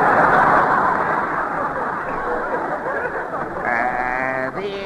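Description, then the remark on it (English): A loud, noisy rumble gives way to a drawn-out cow moo with a wavering, bleat-like tone, followed by a short second call at the very end. No speech. “I'm afraid to milk her, Judge. She backfires.”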